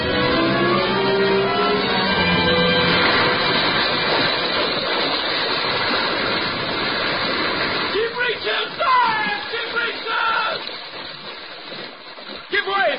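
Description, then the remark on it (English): Water surges and churns loudly as a whale rises and shoots lengthwise from the sea, a steady rushing roar over a low hum that turns into choppier, breaking splashes toward the end. “Suddenly the waters around them slowly swelled in broad circles and quickly upheaved. A low rumbling sound, a subterranean hum, and shrouded in a thin, drooping veil of mist, a vast form shot lengthwise from the sea.”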